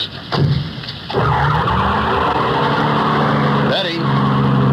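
A car engine revs hard and roars away with a brief tire squeal, the rising engine tone loud before settling into a steady drone.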